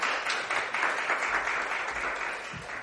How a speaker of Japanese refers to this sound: 先生どうぞよろしくお願いします。大きな拍手を持ってお迎えしましょう。